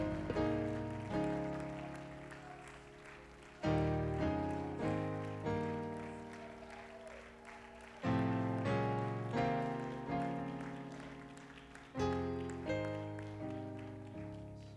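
After a prayer, a crowd claps hands unto God in a steady wash of applause over sustained keyboard chords, the music swelling back in with strong accents every few seconds.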